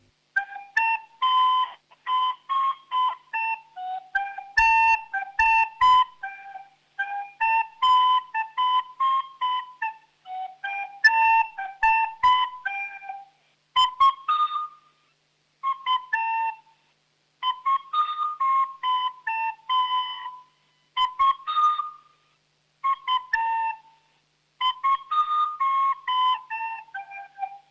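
A solo flute plays a lively dance tune in short, bouncy phrases separated by brief pauses, with clear bright tones and a steady rhythm throughout.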